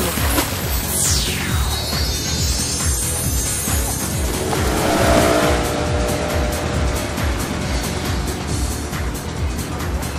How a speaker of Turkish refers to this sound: Sürat teknesi onlara çarpmak üzere.